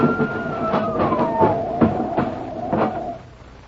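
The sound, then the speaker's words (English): An ambulance siren wails steadily, its pitch sliding gradually lower, over a busy background of clattering knocks and bangs, fairly loud. “Let that ambulance through.”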